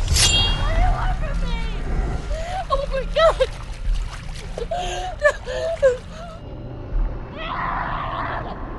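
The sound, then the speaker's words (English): Water splashes and sloshes in irregular bursts, fairly loud, mixed with breathy whimpering gasps as a woman with a bleeding head wound thrashes about in a lake, trying to stay afloat. “He reaches to his waist and unsheathes a machete as she struggles in the water.”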